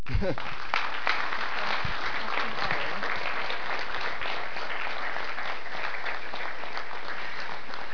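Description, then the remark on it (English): A crowd claps steadily for several seconds, a dense, even wash of applause that stays loud throughout, with faint voices mixed into the clapping. “Let's give everyone another round of applause.”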